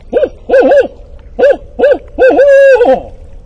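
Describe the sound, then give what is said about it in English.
A barred owl in a bayou hoots in a rhythmic series: a short hoot, a doubled one, two more single hoots, then a long drawn-out call that slurs downward at the end. The hoots are loud and mid-pitched, with no talking. “Wait a bit, see if he hoots. It could be a barred owl or a Yankee ornithologist in the bayou calling in the owls.”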